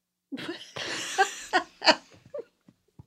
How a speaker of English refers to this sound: Boy, my sneeze interrupted this thing.